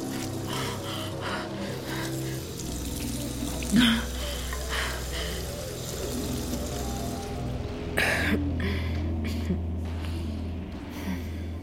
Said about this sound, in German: Sie verlässt das Zimmer, hält ihr Gesicht unter kaltes Wasser.